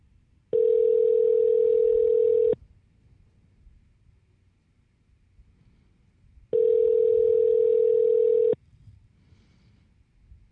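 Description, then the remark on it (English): An outgoing call back to a caller of a radio show rings on the line: two long ringback tones, each about two seconds, separated by a stretch of quiet, with nobody answering. The tones are clear and steady over faint line hiss. “So we're going to call Samuel back and see what he wants to chat about. See if he picks up.”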